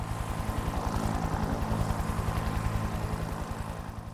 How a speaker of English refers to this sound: One of the policemen took his mobile phone and phoned for a helicopter. Half an hour later, the helicopter arrived and took everybody to Greenview.